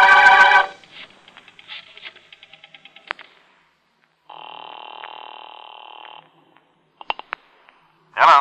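A burst of sound, then a run of rapid, evenly spaced dialing clicks, followed by one steady two-tone telephone ring lasting about two seconds, then a few sharp clicks and a final short burst.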